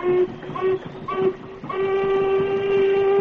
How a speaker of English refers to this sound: Sergeant, they're starting up again. I'll try another signal on the whistle.